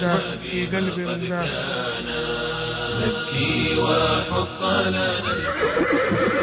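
Horses neigh and whinny in loud, wavering cries that rise and fall, layered over a dense, continuous backdrop that carries on for the whole stretch without any pause.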